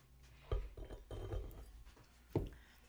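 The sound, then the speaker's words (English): Two sharp glass clinks, one near the start and one near the end, with a soft, steady pour of liquid between them as a second drink is poured into a glass, fairly quiet, with no one speaking. “Let's just pour the second one.”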